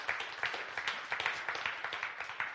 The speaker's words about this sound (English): The physical act of clapping your hands isn't anything special by itself. Clapping your hands won't make it out of this room. Everyone clap your hands for just like 5 seconds.